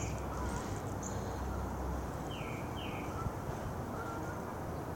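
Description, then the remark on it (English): A few faint bird chirps come through a steady wash of outdoor ambient noise at sunrise on a spring-like Friday morning in Franklin, Massachusetts. There is no talking, just scattered short calls over the background hiss. “The birds chattering.”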